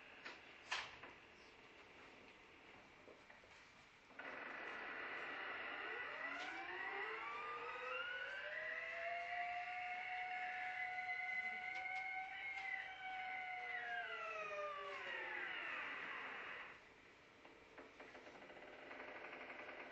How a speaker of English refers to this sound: and this was recorded way up Tuktoyaktuk, Canada, between Barrow, Alaska and Tuktoyaktuk, Canada. And this is an ice floe about half a mile wide and a foot thick. And it's actually breathing. This is the sound you're going to hear.